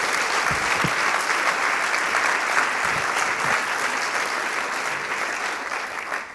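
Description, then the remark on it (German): Sustained audience applause for Aurelia and the whole FAQ team at the event 'Medien macht Moneten', a dense, steady wash of many hands clapping at even loudness for several seconds, tapering slightly at the end, with no voices over it. “Bitte noch einmal einen herzlichen Applaus für Aurelia und das gesamte Team des FAQ.”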